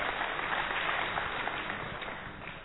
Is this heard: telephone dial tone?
no